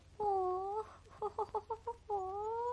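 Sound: hen clucking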